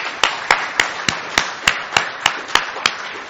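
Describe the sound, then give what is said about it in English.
A church audience applauding a preacher's morning message, a dense steady patter of claps with one sharp clap ringing out at a regular beat above the rest. No one speaks. “Let's give him a round of applause again.”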